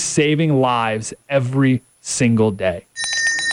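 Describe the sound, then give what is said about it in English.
A man talks briskly, then a handbell starts ringing on its own, a quick run of bright, rapid metallic strikes that continues to the end: the Christmas bell of Salvation Army Red Kettle volunteers collecting donations outside stores in San Diego. “It's also the sound of the Salvation Army Red Kettle volunteers.”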